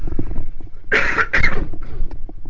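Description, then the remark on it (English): Two quick coughs in succession from a tickly throat, loud and dry, with faint breathy noise around them and no speech. “So I'm going to cough a second, a little tickly throat, excuse me.”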